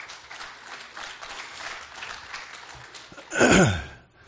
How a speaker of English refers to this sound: and just all the hands that make New Hope possible, I would just like to say thank you. So give yourself a clap, please.